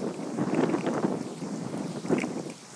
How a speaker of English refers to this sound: The wind is starting to pick up, and I'm sure the microphone's hearing it, so I will catch you all later.